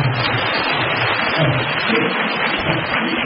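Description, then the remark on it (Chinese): A crowd breaks into sustained applause, a dense, steady wash of many hands clapping at even loudness for about three seconds with no voices over it. “不是，我说你们鼓掌啊，鼓得太早了。”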